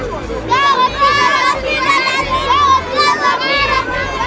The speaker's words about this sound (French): Ils voient aussi les enfants qui crient dans le temple.